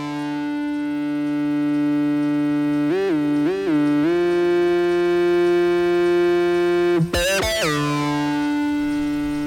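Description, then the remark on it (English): A sustained, buzzy analog synthesizer drone with rich harmonics, played from a loudspeaker, broken by two quick pitch warbles and later a sharp, bright upward sweep before settling back into the steady electronic tone. “The first time I heard these strange tones, I was a kid.”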